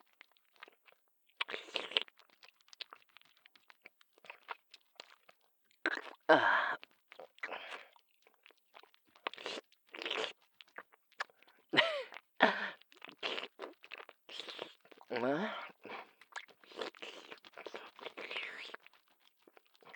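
Ear-licking ASMR mouth sounds: soft, wet smacks, slurps and clicks arriving in irregular bursts, with occasional breathy swishes. No words are spoken.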